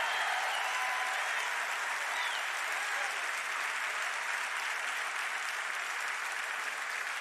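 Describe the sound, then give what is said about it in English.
A church audience claps for the Lord in a dense, steady wash of applause that holds evenly for several seconds, with faint scattered shouts of praise rising through the clapping. “then right where you are, I just want you to give the Lord a thunderous round of applause and a mighty shout of praise.”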